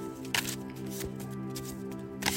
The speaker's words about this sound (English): So I'm going to shuffle the cards as you can hear me doing this.